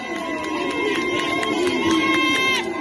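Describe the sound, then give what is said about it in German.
A crowd of several hundred people cheers and shouts in the streets of Libreville, Gabon, after the president was overthrown, loud and continuous throughout, with shrill sustained tones and sharp bursts of noise rising above the dense roar of voices. “Jubel brach aus in Gabun, nachdem der Präsident gestürzt wurde.”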